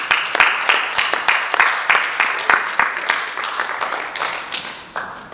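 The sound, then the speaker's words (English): An audience applauds steadily for about five seconds to bring on a reverend to close with prayer, a dense patter of many hands with a few sharper individual claps standing out, thinning slightly toward the end. “Bring him on with a round of applause.”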